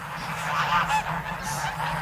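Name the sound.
geese honking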